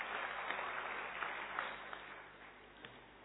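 Steady audience applause, a dense wash of many hands clapping at once with a few sharper claps standing out, holding a fairly even level throughout with no voices.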